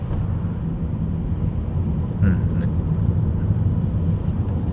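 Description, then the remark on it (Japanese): A steady low engine and road rumble from inside a car moving slowly in a traffic jam on a congested road, continuous and fairly loud throughout, with a brief faint higher squeak partway through. “よいしょ、結構渋滞しちゃってますね。この道は混むのかな。”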